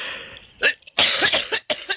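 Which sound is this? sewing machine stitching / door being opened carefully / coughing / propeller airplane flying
coughing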